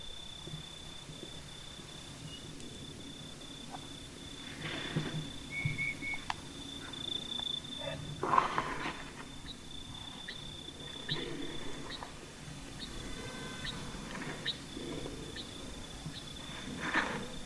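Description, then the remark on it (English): A few tiny, bell-like notes of a night parrot ring out faintly and sparsely over a steady high insect drone, in a hushed desert after sunset among ancient stone mesas and red dust at Pullen Pullen. “Hear that tiny bell? That is a night parrot.”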